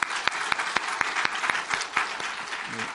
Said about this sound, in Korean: 네, 박수 한번 할까요? 네.